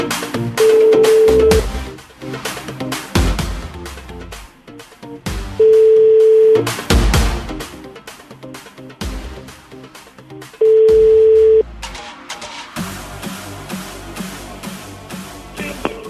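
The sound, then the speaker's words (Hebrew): An outgoing phone call's ringing tone, as a radio show calls a listener, sounds three times, each steady tone lasting about a second with roughly five-second gaps, heard over busy background music. “הנה זה מצלצל”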